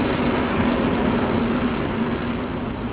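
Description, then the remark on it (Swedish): A train rolls past, a loud, steady rumble with a low humming drone that holds evenly throughout, with no voices. “Ja, jag tror han kommer nu, hörru. Ja, det kommer något här.”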